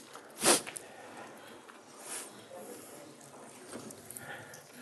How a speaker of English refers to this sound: I said, yeah, now my head's all stuffed up. So if you hear me sniffling, I'm sorry.